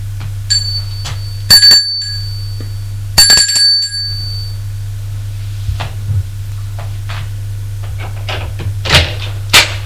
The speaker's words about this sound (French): Il entre dans l'allée. Prends l'ascenseur. Et sonne à sa porte.